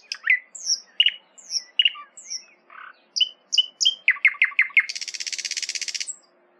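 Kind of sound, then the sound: bird, nightingale song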